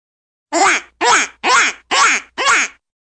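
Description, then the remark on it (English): A duck quacks five times in a steady, evenly spaced series, each quack loud and nasal, with brief silences between them. “There's a duck.”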